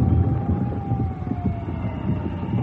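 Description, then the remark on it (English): A siren wails with a long, slowly falling tone over a heavy, rumbling background in a darkened city through the evening and night after an earthquake, sustained throughout without any voices. “All through that evening and night, the sirens whined in the darkened city and the task of digging out was started.”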